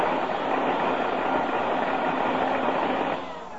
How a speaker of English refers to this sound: I fixed your vacuum cleaner for you